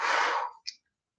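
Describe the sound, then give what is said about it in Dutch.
A single strong, breathy exhale blown out through the mouth after a deep, held breath in a guided breathing exercise, a broad rushing hiss that fades over half a second, followed by a brief faint click, alone. “En dan blaas je heel krachtig uit. Heel krachtig uitblazen.”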